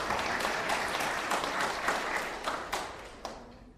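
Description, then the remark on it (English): A crowd claps in dense, steady applause full of many overlapping hand claps, given as a round of applause for the people who blew, and the clapping gradually thins and fades out toward the end. “Round of applause, please, for our blowers.”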